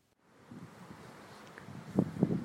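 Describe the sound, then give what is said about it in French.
Wind blows in a steady, breathy rush after a storm, with low buffeting gusts that grow stronger toward the end. No one speaks. “Après l'orage, le vent souffle.”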